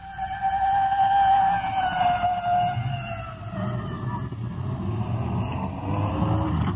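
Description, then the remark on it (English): A red fire department rescue squad truck's siren wails past as the vehicle carrying the listener pulls over to the side of the road to let it go by, its rising and falling tone sliding lower as it passes, over a steady rumble of road and engine noise. No one speaks. “It's red, fire department, rescue squad. Slowing down. We're pulled over to the side now. Let the respirator truck go by.”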